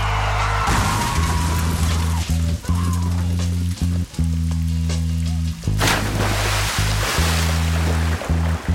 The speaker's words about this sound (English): where he's, in theory, speaking into a sort of tape recorder as with his pregnant girlfriend in the back of his car, and he drives into a river.